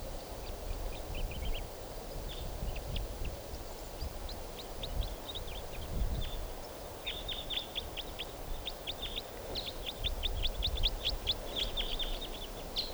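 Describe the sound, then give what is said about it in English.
A type 4 crossbill sings right above a truck in bursts of quick, bright chirps and trills, fairly faint, over a steady low rumble of wind or idling engine. No one speaks. “Here's a type 4 bird right above the truck in song now.”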